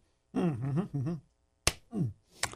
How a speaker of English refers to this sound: All right. AJ got a good one. That was a smack against Brian.